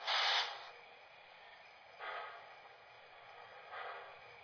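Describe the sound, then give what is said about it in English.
A loud rushing burst of steam hiss from a steam locomotive boiler blowdown opens, followed by two shorter, softer hissing bursts spaced about two seconds apart, over a steady low background hiss with no voices. “I want to blow her down now.”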